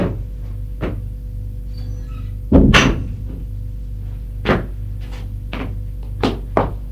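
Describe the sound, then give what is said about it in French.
A door bumps open with one solid thud as a woman enters, followed by a few lighter clicks and knocks over a steady low hum. No one speaks. “Il dit, ah bon, il se lève, va vers la porte, vous, elle est là, elle entre.”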